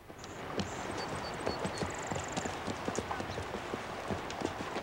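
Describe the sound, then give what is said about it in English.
The hooves of several Yankee troopers' horses clatter over a rocky river shore in a steady, uneven stream of sharp knocks, with faint high chirps in the background during the first few seconds. “At the signal, the Yankee troopers move their horses out of the cover of the trees and onto the rocky shore.”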